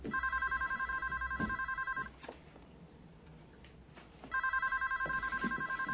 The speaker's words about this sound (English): Answer the phone. It's him. Answer the phone.